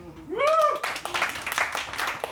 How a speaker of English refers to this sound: All right, your second option is Bernie Sanders. So with your applause, who wants to hear Pacific Rim?